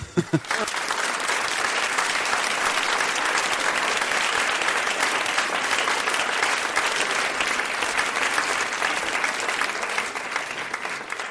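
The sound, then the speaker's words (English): Sustained applause from a crowd: dense, steady clapping that holds at an even, loud level for the whole stretch, with no voices rising above it. “You really stepped in, and that's why now you get like a minute of uninterrupted applause.”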